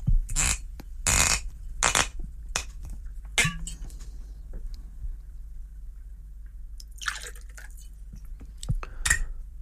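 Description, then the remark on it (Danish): A drink is poured into a small glass in a few short, splashy bursts, with wet glugging and dripping sounds, faint clicks between pours and a steady low hum underneath. No one speaks. “Men man kan selvfølgelig godt skænke sig et lille glas, som kan lindre halsen.”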